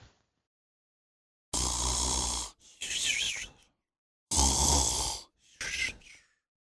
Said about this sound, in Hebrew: נחירה היא מה שקורה כשאין מספיק מקום למעבר של אוויר בגרון בזמן השינה. כשהאוויר עובר דרך צינורות צרים מדי, הוא גורם לרקמות לרטוט ובכך נוצר הקול האופייני של נחירה. נחירות יכולות להיות קטנות ושקטות יחסית, אבל יש גם נחירות שהן בעוצמה של אוטובוס שנוסע.